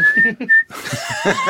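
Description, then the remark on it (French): A person whistles a steady, high note in two short bursts separated by a brief pause, loud, then the whistling gives way to noisy background commotion. “Là, vous êtes en train de siffler, là.”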